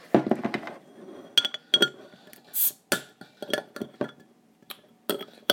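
food or drink, beer bottle being opened

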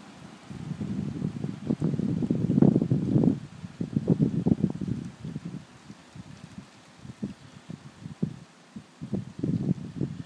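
nature, wind blowing

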